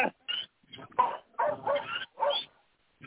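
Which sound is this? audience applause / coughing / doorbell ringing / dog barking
dog barking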